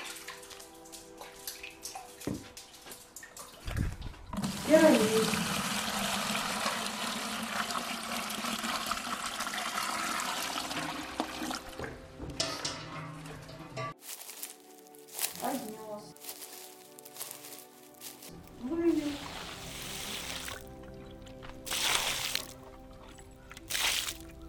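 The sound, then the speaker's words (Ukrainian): Water gushes and splashes loudly for several seconds as someone draws water with a bucket and pours it out in a rush, followed by quieter sloshing and trickles, with a voice speaking intermittently. “Вертается, снова достает воду.”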